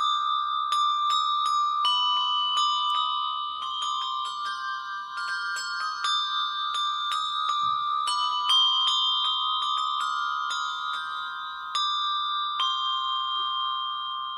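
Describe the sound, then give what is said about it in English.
Handbells strung together, held in the hand rather than in a bell tree stand, are struck with two mallets and ring out a bright, steady melody, each note a crisp strike followed by a lingering, overlapping shimmer, fairly loud with no talking. “Well, the top one didn't play too well because it's not in a regular bell tree stand. I'm holding it.”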